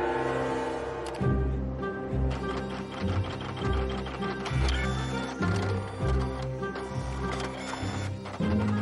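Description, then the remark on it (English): A printer in Barcelona runs, cycling through a steady, repeating pattern of whirring and clunking strokes roughly once a second, with no voices present; a part inside the printer has failed. “The part inside the printer has failed, and the manufacturer sends Marcos to technical support.”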